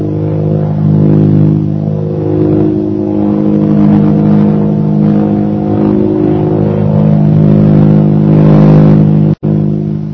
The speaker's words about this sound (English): Several hours later, the plane carrying Shanghai Lil and Jungle Jim circled over the military airport at Calcutta.